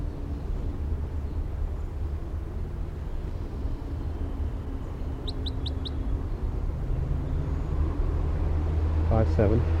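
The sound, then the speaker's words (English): A quick series of four faint, high chirps from a lone wild orange male bird rises out of steady rumbling wind and traffic-like noise midway through, on a windy day, followed by a brief call near the end. “They're recording this is a wild bird with filter 3 on it.”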